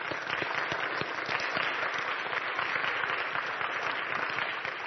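An audience applauds steadily to thank the worship team, a dense wash of many hands clapping at once with sharp individual claps poking through, sustained at an even, fairly loud level throughout.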